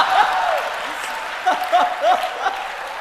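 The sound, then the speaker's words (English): An audience applauds steadily for about three seconds, a dense wash of clapping with a few rising whoops and whistles of cheering scattered through it. “And so for a man to say, yeah, I got the balls for this job, I'm going to take this on, that's something to be applauded, Give it.”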